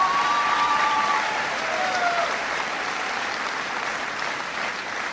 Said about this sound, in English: We've got Congressman Russ Carnahan, who's voting on the budget today, but I want everybody to give him a big round of applause anyway.